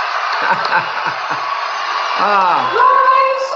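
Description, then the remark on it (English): A huge crowd of more than 14,000 people crammed into Bossier City's biggest arena in Louisiana cheers in a steady, loud roar, with individual whoops and rising, falling yells standing out above the dense wash of voices. “And he'll walk around on that podium and that ramp there with this huge crowd, more than 14,000 people crammed into Bossier City's biggest arena.”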